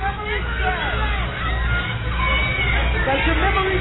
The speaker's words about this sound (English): They're all yelling the words to him.